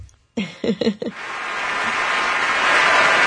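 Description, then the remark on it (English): Studio audience applause on a talk show, welcoming a guest, builds into a steady, dense wash of clapping that grows louder and holds to the end, opened by a few short, excited vocal whoops. “That's the audience behind the studio.”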